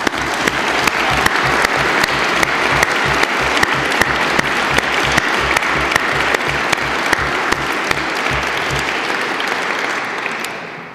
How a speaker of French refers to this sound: J'invite donc François Host à se lever afin que nous puissions également l'applaudir.